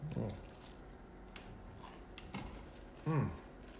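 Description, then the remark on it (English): Several short, crisp crunches of someone biting into a cookie and chewing, scattered across a few seconds at low volume, with a couple of brief murmured voice sounds mixed in. “Okay, right off the bat, I want to talk about that crunch.”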